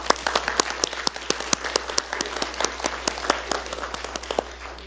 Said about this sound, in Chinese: 好，我们给他拍拍手吧。